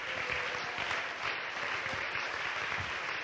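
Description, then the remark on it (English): An audience claps together, a dense, steady wash of many hands at an even loudness throughout, with no voices standing out. “Can we clap under the Lord?”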